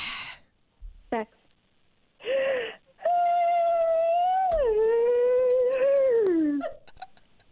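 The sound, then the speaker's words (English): An exaggerated, theatrical yawn: a few short breathy vocal bursts, then a long, loud, drawn-out voiced groan that wavers and slides down in pitch before trailing off. “You know how some people yawn and go, and there's no sound. Can you please put a bit of theatrics behind it?”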